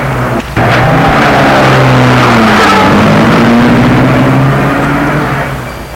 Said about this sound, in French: La portière arrière s'ouvre, elle s'engouffre et dit au revoir. Et lorsque la voiture dépasse Julien,